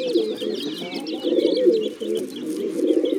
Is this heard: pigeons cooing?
yes